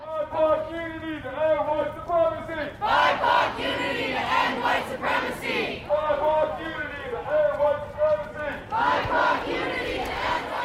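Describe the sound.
A protest crowd marching through downtown San Luis Obispo chants in a repeating call-and-response pattern, a single leader's voice answered by many loud voices together, the rhythmic chant cycling steadily throughout.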